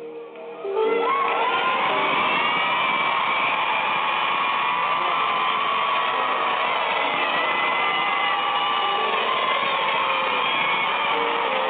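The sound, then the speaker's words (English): An audience at a ceremony where bishops are presented in their garments erupts into sustained shouting and cheering that starts abruptly and stays loud and dense for over ten seconds, with whoops and high voices blending into a continuous roar. “Now, if we was doing this differently, y'all wouldn't do all this shouting till the end.”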